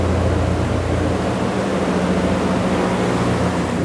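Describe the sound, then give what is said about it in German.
A steady, dense cabin drone fills an airship cabin as it is about to land, with a constant low rumble and broad hiss holding at an even loudness throughout as the cabin vibrates. “Es vibriert jetzt auch ein bisschen lauter.”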